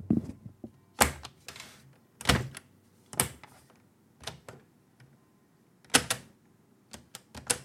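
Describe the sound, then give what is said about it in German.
A Schneider CPC 464 home computer's cassette drive mechanism, which runs on datasettes, clicks and clunks at uneven intervals, sharp mechanical snaps with quiet whirring pauses between them, no voices. “Erkennt ihr die Geräusche? Mit Kassettenlaufwerk.”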